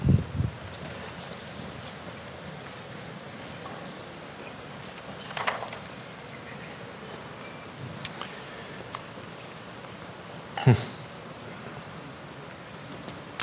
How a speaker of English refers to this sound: God, even as we hear the rain on the roof, God, we just even ask for just the rain of your presence to just shower down on us, even right now.